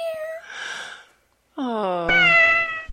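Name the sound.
cat meowing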